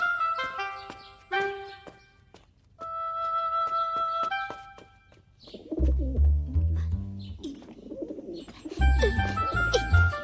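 Pigeons kept in a cage coo in low, throaty, rolling bursts that come in two clusters, after a stretch of clearer, higher tonal bird calls. No one speaks.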